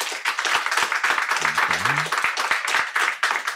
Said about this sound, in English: So after having heard this debate, I'm going to have you applaud to show your stance, yes, no, and undecided. So right now, clap if you think, yes, millennials will be left behind.